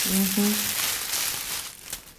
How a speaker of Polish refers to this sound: Nawysypywałam ziółek, o, lipa, o, tak szeleszczą, dobrze wysuszone ziółka.